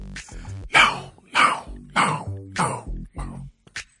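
A run of about five harsh coughs and throat clearings, evenly spaced roughly half a second apart, followed by a smaller final clearing of the throat, with no talking.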